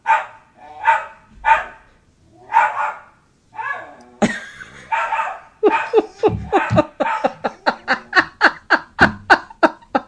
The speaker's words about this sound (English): I'm sorry. That's my total asshole dog, as opposed to just one of the asshole dogs. I'm going to let him bark it out.